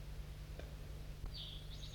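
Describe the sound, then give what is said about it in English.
Crossbill calls, with a crossbill perched in a tree above calling back and forth with another crossbill just taken out of a net: a couple of brief chirps followed by a high, warbling call that carries through the last half, over a steady low hum. “There's another crossbill here, I didn't even know it.”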